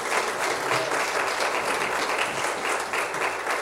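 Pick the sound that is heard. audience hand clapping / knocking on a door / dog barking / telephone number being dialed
audience hand clapping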